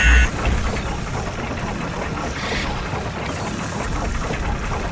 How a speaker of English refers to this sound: So let's start the boat up here.